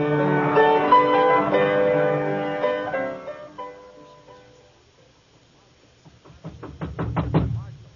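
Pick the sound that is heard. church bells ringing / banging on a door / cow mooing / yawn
banging on a door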